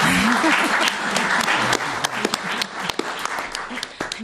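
audience applause

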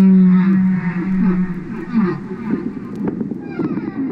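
humpback whale song

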